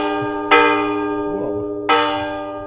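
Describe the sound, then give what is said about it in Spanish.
A large church tower bell, rung by hand by pulling its rope in place of the clock, rings out twice, about 1.4 seconds apart, each loud strike followed by a long, rich humming decay that overlaps the next; no voices are heard. “Y si es hago yo de reloj y le doy a la sirga esta de la campana a ver cómo suena.”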